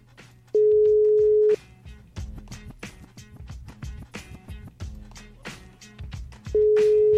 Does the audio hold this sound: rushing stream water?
no